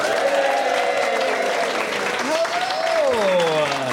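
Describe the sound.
A large, friendly crowd in Pinner applauds steadily and loudly throughout, welcoming an actor and impressionist on stage, with a few whoops and voices rising over the dense clapping.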